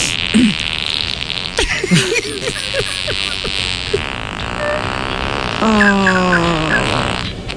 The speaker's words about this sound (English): This is what I'm paying for. Farts. This is what I'm paying for.